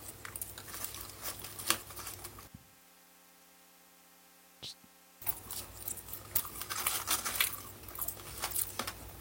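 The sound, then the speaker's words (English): Crunchy chewing and crinkly mouth noises of a person eating a french fry, then a brief near-silent pause broken by a single soft click as he swallows, before the busy munching sounds resume. “That's just him swallowing.”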